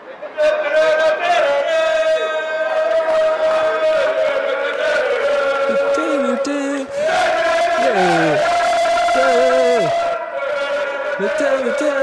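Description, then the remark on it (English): About six happy football fans of the yellows, jumping around, loudly chant a song together on a train platform right next to someone waiting for the train, their rough male voices holding sustained, rising and falling notes that carry on without a break. “And this is what they sounded like on the platform right next to me while I was waiting for the train.”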